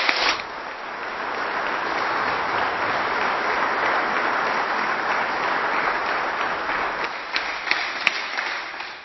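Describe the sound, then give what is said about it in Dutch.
An audience at a church service applauds steadily for about nine seconds to thank those who set up and rehearsed, a dense, even wash of many hands clapping that starts abruptly and thins slightly toward the end, with a few sharper individual claps near the finish. “Laten we onze dank uiten door een mooi applaus te geven.”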